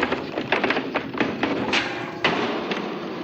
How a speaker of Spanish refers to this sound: Sube los escalones de tres en tres. Encuentra cerrada la puerta del dormitorio y la fuerza.